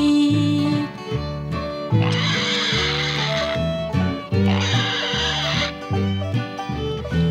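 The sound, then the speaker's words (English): A pig oinks in two loud, snorting bursts, each lasting about a second and a half, over a bouncy musical backing with no one talking. “Fee-deedle-dee-deedle-dee-dee-dee, the pig is talking to me.”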